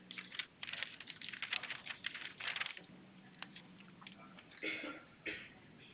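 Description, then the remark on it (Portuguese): Busy handling noises as someone grabs paper and a pen during a phone call, to note down a protocol number: quick taps and clicks mixed with short bursts of papery rustling, irregular and fairly quiet, with no talking. “Por favor, só um momentinho, só vou pegar um papel e caneta.”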